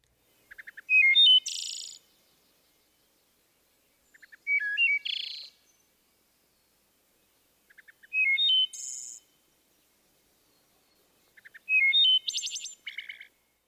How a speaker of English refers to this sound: The final phrase, a series of fast-fluttered notes, sometimes sounding like a metallic trill, is also helpful in distinguishing the wood thrush.